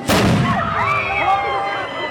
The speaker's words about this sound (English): The officer gives the order to light the cannon, and a drum roll begins. The few thousand people huddle together and brace themselves as the torch is lifted higher into the air. And then...